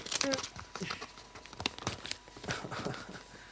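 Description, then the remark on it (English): Wrapping paper on a heavy package is ripped and crumpled in a busy run of crackling, crinkling bursts and sharp tearing rasps that keep going steadily for a few seconds. “I have to kind of rip that paper.”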